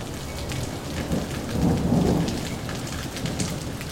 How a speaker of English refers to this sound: I'm wondering, because I'm sitting in a lightning storm right now, how hot is lightning?